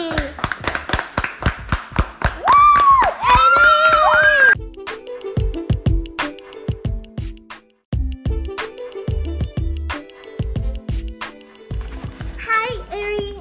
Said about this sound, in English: We have a surprise with Ariana. A round of applause for Ellie!